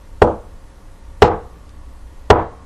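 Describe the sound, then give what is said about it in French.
Three distinct knocks on a wooden door before entering, evenly spaced about a second apart, each a sharp thud with a short resonant decay, heard alone without voices. “Le lutin acquiesça avec un petit sourire malicieux et lui rappela qu'il fallait frapper la porte 3 fois avant d'entrer.”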